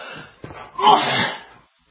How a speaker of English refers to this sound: I am sorry today. I am having a bad talking day. I keep sneezing and coughing. I apologize.